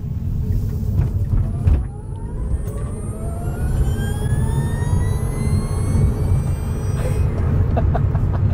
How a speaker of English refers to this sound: Absolutely brilliant. The idea of adding synthetic sounds to your electric car just seems ridiculous, but to hear the whine of the actual electric motor, that's fantastic. Love it.